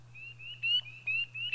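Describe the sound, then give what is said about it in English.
A chorus of high, piercing peeps from spring peeper frogs, several overlapping calls repeating in quick succession over a steady low hum. “Spring peepers.”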